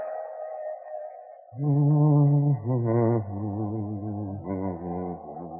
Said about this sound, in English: That thing you're humming. That's real pretty, I said. What is it?